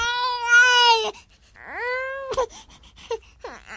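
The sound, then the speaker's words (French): A newborn baby girl gives her first cries just after birth, at 4:31, in loud, wavering wails, two long cries with a breath between, then a few shorter, fainter sobbing whimpers trailing off. “Elle pousse ses premiers cris.”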